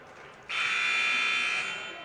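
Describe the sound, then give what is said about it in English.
A basketball game horn buzzer in a gym, sounded before both teams come out, blares in one loud, steady, harsh tone lasting over a second, rising abruptly out of crowd murmur and then slowly fading. “And the horn has been buzzed, so both teams are expected to come out.”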